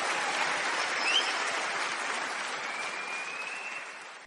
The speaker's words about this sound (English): I should think so too. Well-deserved applause